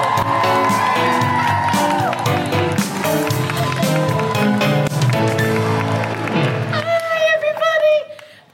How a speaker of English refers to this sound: Then keep that applause going for the guilty feminist favourite, the one, the only, Alison Spittle!